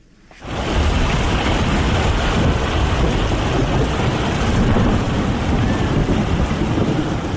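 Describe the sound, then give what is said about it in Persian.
Heavy rain pours down steadily in a dense, loud roar with low rumbling beneath, starting abruptly and continuing without a break; no voices are heard. “تغییرات اقلیمی در جهان، بارانهای شدید و سیلابهای غیر مترقبه را در سراسر جهان به شمول افغانستان در قبال داشته و آزمونهای موجود در این کشور را بیشتر کرده است.”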